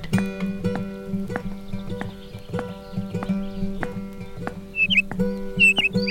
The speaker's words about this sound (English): Fellas, seriously, do we actually need the actual birds in the studio with us? Couldn't you have dropped them in post or something?